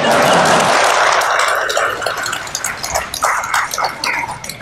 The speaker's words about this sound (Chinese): 别光笑，该鼓掌鼓掌。